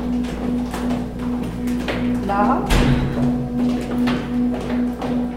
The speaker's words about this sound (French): Là, on descend l'escalier, là, qui va mener au sous-sol.